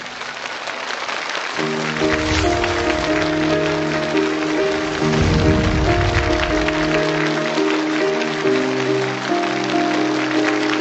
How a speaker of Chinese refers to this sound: 接下来让我们掌声欢迎朗读者徐静蕾。